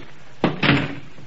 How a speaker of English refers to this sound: The back door's wide open. I'll close it. Wait a minute, don't touch it. Don't touch that knob. Kick it shut.